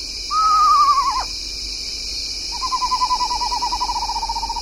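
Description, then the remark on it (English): An eastern screech owl calling at night gives a short, quavering descending whinny, then a long, steady, tremulous trill on one pitch, clear over a constant high hiss of night insects. “Go birding by canoe and prowl for owls, like this eastern screech owl at night.”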